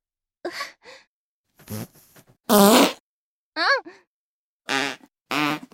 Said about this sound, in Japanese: やだ、おなら止まんない。あん、また。あーん、すっきり。